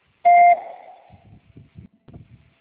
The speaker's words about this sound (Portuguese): Por favor, digite pausadamente o número da matrícula após o bip.